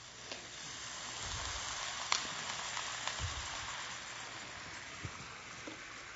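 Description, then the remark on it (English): Water is poured into a hot pot of cooking curry with meat, to make the curry sauce, raising a steady hissing sizzle with a few soft splashes and clinks scattered through it. No one speaks. “So this is the time I'm going to add the water, so which will make the curry sauce.”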